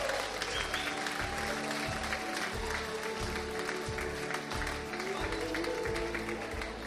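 Sustained audience applause for couples married in October as they come up onto the stage, a dense, steady wash of many hands clapping at an even loudness for several seconds, with faint voices and a low rhythmic thump underneath.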